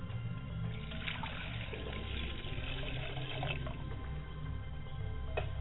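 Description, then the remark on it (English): Water pours steadily into a glass, a continuous splashing and gurgling that lasts several seconds without pause, with no voices over it. “Mother, I pour that same glass of water to quench your thirst, and may it give you substance and renew your strength.”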